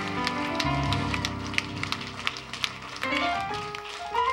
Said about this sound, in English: Now give the Lord a hand clap for it.